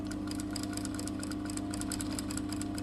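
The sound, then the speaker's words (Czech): A sewing machine runs steadily as a girl sews a dress for her final exam in a training workshop, its needle stitching in a fast, even mechanical rhythm over a constant motor hum, with no one talking. “Lucka usedá za šicí stroj.”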